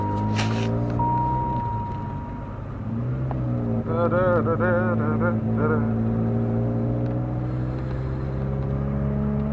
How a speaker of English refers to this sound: We're parked in front of a KFC and the theater's across the street. So you're about to hear a little bit of noise. It's a pretty powerful car. It's a good way of putting it. It purrs like a kitty.